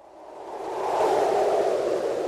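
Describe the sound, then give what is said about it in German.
A strong gust of autumn storm wind roars and swells, building steadily louder over a couple of seconds into a steady rushing blast with no voices present. “ein Herbststurm, der es richtig kuttet.”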